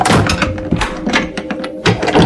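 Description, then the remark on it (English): A heavy laboratory door slams shut, followed by a series of sharp metallic clunks and rattles as the lock tumblers tighten shut, loud with no voices. “the door to the laboratory slammed shut, and McAllen heard the tumblers in the locks tighten shut”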